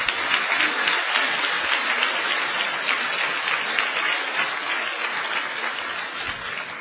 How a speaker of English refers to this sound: we would really like to invite Ajahn Brahm up to conduct the meditation workshop. So let's give him a warm round of applause.